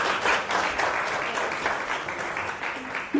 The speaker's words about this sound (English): Thank you so much, Ray. Can we get a round of applause for Ray, please?